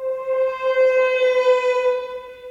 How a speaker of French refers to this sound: Par exemple, il y a des glissés, notamment avec les corps. Ça, ça fait sirène d'alarme.